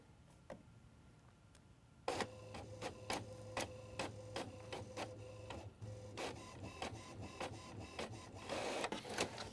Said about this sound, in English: There it goes. And it's preparing the document right now, rendering to this HP printer in a format we call PCLM. And so momentarily here, we'll have paper coming out.